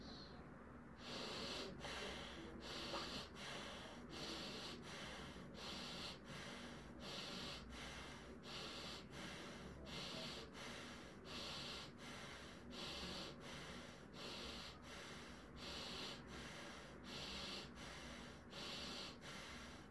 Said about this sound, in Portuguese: Vamos realizar por 21 vezes a respiração do fogo. Todos juntos. Iniciamos.